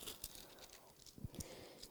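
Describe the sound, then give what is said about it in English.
Soft rustling and crinkling of the paper pages of a Bible being handled, turned to Philippians 4:4 through 7, with a few sharper flicks as pages turn over two seconds. Fairly quiet, with no voices. “Okay, listen up. This is the paper Bible.”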